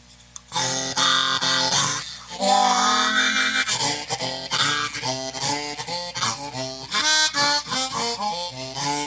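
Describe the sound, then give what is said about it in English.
A low-pitched double low tuned B flat diatonic harmonica, two octaves below a regular B flat, plays reedy, buzzing chords and notes in a steady series of breathy bursts, with a longer held passage partway through; loud and played alone without any talking. “But then you got side L coming out with the answer to a chromatic, and it's a double low tune B flat.”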